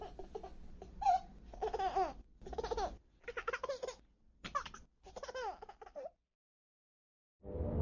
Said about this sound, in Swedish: Det finns ingenting som låter härligare än barnskratt. Bebisar som skrattar. Om det inte är klockan 1 på natten och man är ensam hemma.